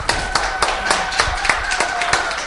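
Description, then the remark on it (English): An audience claps and cheers for the Lord in a steady, fairly quick rhythm, sharp claps standing out over a continuous wash of cheering voices and crowd noise throughout. “Let's give the Lord a cheer.”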